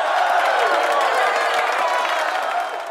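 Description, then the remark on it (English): A large crowd cheers and claps continuously after words about freeing a hospital in Iran, a dense wash of voices and applause that stays loud and steady before easing slightly at the end. “The crowd cheered.”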